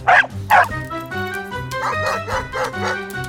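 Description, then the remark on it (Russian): A small dog, Kusachka, barks twice in quick sharp bursts, then keeps up a run of rapid, higher-pitched yips as it lunges at Nolik, over a sustained musical background, fairly loud; a rope is tied to the dog's collar. “Трос, привязанный к ошейнику собаки, натянулся, ручка в замке повернулась, и дверь наконец-то открылась.”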